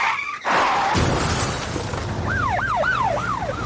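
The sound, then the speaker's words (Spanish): A loud car crash with an abrupt impact and shattering glass, followed by an emergency siren wailing up and down several times, in a Spanish advertisement for Corbacho Abogados, a law firm for traffic accident cases. No one speaks. “¿Has sufrido un accidente de tráfico?”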